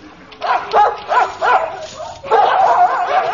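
Several dogs in pens bark in quick, overlapping bursts, then break into a steady run of yapping and whining near the end, fairly loud against a noisy background.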